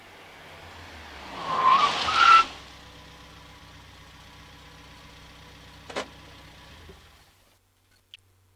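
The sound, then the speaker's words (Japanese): A small car approaches with a loud, sharp tire screech lasting about a second, then idles in the background; a brief door-like thunk follows before the engine cuts off. “今回、依頼人との待ち合わせに向かうため、荷下ろしはじめは藤子の車を待っていた。”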